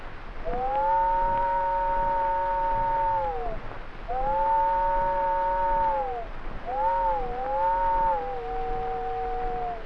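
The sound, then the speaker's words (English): A voice imitates an old train whistle as heard about a quarter mile down the track, with three long, wailing two-tone blasts. The first two hold steady and fade off, and the last wavers before sliding to a lower pitch. “I got down there just in time to hear the old whistle about a quarter mile down the track.”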